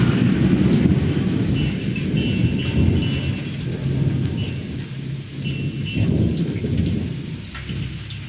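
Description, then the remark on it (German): Deep rumbling thunder rolls continuously beneath steady, dense rainfall, mixed with the sound of a tractor, the low roar swelling and easing over several seconds with no voices present. “Wie könnte es epischer sein als mit dieser Mischaufnahme vom Traktorengeräusch und Donnergrollen.”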